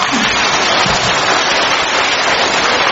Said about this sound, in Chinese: 鼓掌。